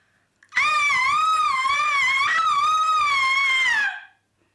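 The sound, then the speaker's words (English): A person lets out one loud, sustained wailing scream lasting a few seconds, its high pitch wavering up and down steadily before cutting off, with no other sounds around it. “Well, let me assure you, it was a stonker. More of a wail.”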